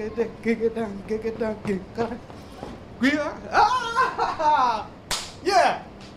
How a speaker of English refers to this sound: jumps high, twists and turns, touches the ground with astonishing flexibility, and energetically shuffles his feet to his self-made beat.